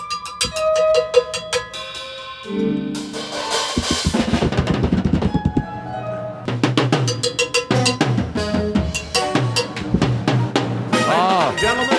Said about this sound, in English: Oh, I hear them setting up piano out there and they're. Oh yeah, you hear the bands. Oh, he's here. Oh, he's in our Todd Glass Theater. You hear the drums.